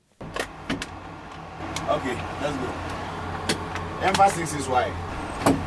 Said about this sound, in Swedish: Ja, nu lämnar vi den här FN-basen i en bepansrad bil tillsammans med 3 FN-soldater från Unifil. Från Ghana är de allihopa.